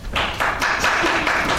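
Sparse, scattered clapping from just a few people in an audience showing support for the Panthers in the Super Bowl, a handful of uneven claps spread across under two seconds, with a faint reverberant background.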